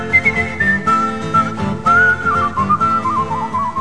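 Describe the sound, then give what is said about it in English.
A person whistles a wavering melody over a dense, loud music backing, the bright whistle line gliding and sliding between notes throughout. “Whistle what he's doing. I don't know what tune he's doing.”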